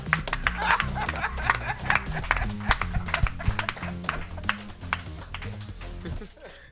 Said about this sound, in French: On l'applaudit chaleureusement.